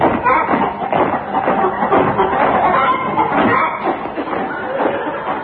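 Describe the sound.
Busy, continuous, fairly loud clucking and squawking like a flock of chickens, with overlapping calls filling the whole stretch without a pause.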